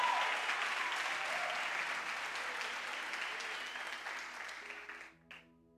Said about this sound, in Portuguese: Você pode glorificar e aplaudir a Ele nessa noite.